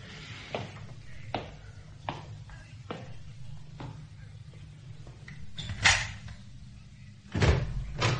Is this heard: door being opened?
yes